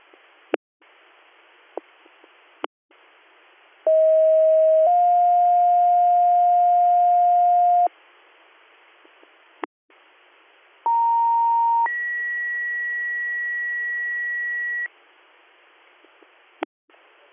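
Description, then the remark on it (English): Emergency dispatch paging tones for Western EMS, Leroy Township, Department 2, District Director, over a hissy radio channel: a steady tone shifts to a slightly higher one, then after a pause a tone steps up to a higher pitch, with brief static clicks between. “Western EMS, Leroy Township, Department 2, District Director Tones, 9220, Route 414, for Pops and CJ.”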